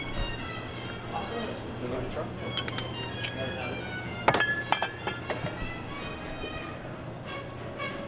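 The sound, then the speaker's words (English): Herbsaint anise liqueur swirled in a chilled glass to coat its inside while mixing a whiskey cocktail produces a series of bright clinks and taps, several in quick succession midway, against a steady low hum and a speaking voice. “So basically, I'm just going to swirl that around until it is lined enough, and then I'll dump that.”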